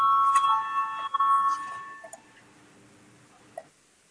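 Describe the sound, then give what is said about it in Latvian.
An electronic parliamentary voting bell rings steadily for about two seconds with a bright, sustained tone, calling a vote on the 33rd proposal of the cabinet of ministers, then fades out into quiet with a faint murmur and a small click near the end. “Lūdzu zvanu, balsosim par 33. ministru kabineta priekšlikumu.”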